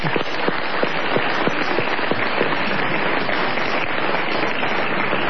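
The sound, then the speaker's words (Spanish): A crowd applauds steadily for Tom Lupo on a radio programme, with dense overlapping claps at an even, fairly loud level throughout. Nobody speaks over it. “Ni bien termina este programa, aplaudamos a Tom.”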